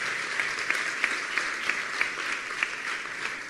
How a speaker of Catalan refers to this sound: Fort aplaudiment per a ells, que s'ho mereixen.